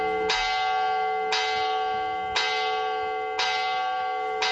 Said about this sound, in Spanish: Hoy todas las campanas de las iglesias de Madrid han doblado como homenaje a los asesinados aquel fatídico jueves de 2004.